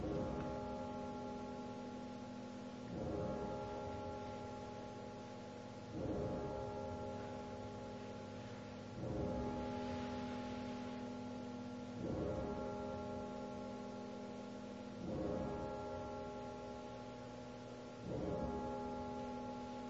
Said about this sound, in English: Nice of the bells to give us an accompaniment. So, good timing.